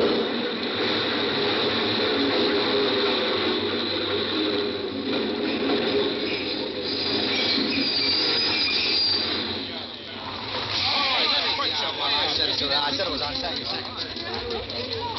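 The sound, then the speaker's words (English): A subway train rumbles in loudly out of the tunnel, its wheels shrieking against the rails in sustained, high metallic squeals over a dense roar, with indistinct voices of the five o'clock crowd mixed underneath. “But what I really wanted to do was to throw myself in front of that train.”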